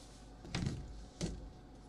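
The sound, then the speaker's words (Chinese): A door is opened for an arriving visitor: a soft clunk of the latch, then a second dull knock about half a second later, fairly quiet against a faint hum. “我情人到了，别碰我，我去开门。”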